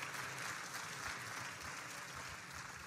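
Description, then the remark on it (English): An audience claps steadily, a dense wash of many hands that stays loud and even for about three seconds with no voices on top. “Don't clap yet.”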